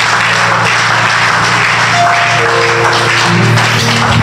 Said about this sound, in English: Clap your hands all over the building.